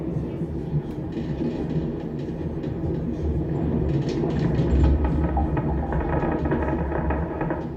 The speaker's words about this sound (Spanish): Un crujido. Qué tétrico, ¿no? Muy tétrico. Imagínate ahora este crujido en un lugar totalmente solitario.